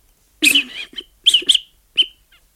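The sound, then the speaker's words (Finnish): A series of short, breathy blows as someone tries to blow hard into a whistle, about five or six uneven puffs, each carrying a thin high-pitched tone that wavers and cuts off quickly, with brief silences between them. “Yritä ihan tiukkaan, tarkkaan puhaltaa sinne pilliin.”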